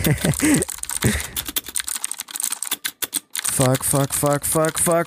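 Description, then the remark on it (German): Rapid, uneven clicking of keys on a computer keyboard during a typing speed test, with a voice talking over parts of it before and after the typing burst. “Irgendwelche Leute, die so 10 Finger tippen können, die lachen jetzt komplett.”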